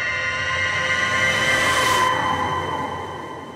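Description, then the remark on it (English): A shrill whistle sounds at 5 a.m. from the direction of Standpipe Hill in Tulsa, one long, unbroken blast, a loud, steady, piercing tone with layered overtones that holds throughout and eases off slightly at the end. No voices are heard. “As I reach the sidewalk, a shrill whistle sounds from the direction of Standpipe Hill.”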